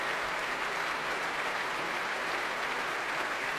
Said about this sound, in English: And now, very touchingly, the whole orchestra refused to come to their feet and applaud not himself, their conductor. The brass, the woodwind clapping, the strings tapping their desks with their bows. But they do come to their feet.